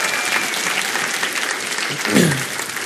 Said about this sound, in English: Just give your pastor a round of applause for him and his family.